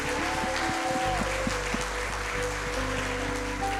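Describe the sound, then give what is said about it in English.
A church audience claps hands in praise to God during a worship service, a dense steady wash of applause over sustained organ-like tones, lasting several seconds with no speech. “Let's give him one more hand clap of praise today.”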